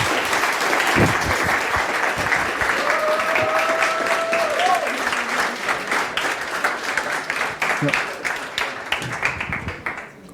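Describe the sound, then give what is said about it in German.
Sustained audience applause, many hands clapping in a dense, steady wash that thins into more distinct individual claps toward the end, with faint voices and a brief tonal whistle underneath. “Ein Applaus für”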